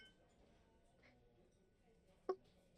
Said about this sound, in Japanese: あ、そのグラス、私の注文でーす。すみません、ありがとうございます。ん？そうですね。じゃあ。乾杯。